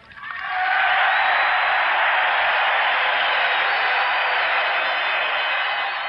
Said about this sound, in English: the crowd went on for almost 40 seconds applauding that line of Barry Goldwater's.